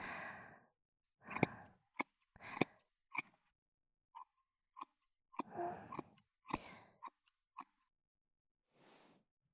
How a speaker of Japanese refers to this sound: ハサミで丁寧に、うん、ごめんね、少しずつチョキチョキとカットしていくね。